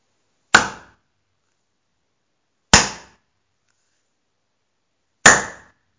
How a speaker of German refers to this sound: Und auch das Tor, vor dem Juanschaft für zwei nun stand, das war pechschwarz und riesengroß. Juanschaft für zwei, der nahm seine Zange von der Schulter und klopfte mit der Zange 3-mal gegen das Tor.